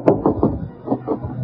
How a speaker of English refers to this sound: This must be Bing's room, the Flanders. There's an autograph. There's an autograph picture of Bill Ives hanging on the door. Well, I'll knock.